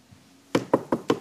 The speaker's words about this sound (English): Knock at the door. Goes to the door.